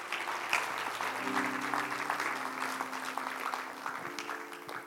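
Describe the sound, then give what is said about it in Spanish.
An audience applauds steadily for several seconds, a dense wash of many hands clapping at an even loudness, with a low sustained organ or keyboard tone humming underneath. “¿Cuántos pueden dar un aplauso?”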